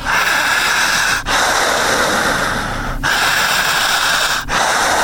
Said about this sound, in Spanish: Fuerte la respiración. Jalando el aire, eso, sin cortar.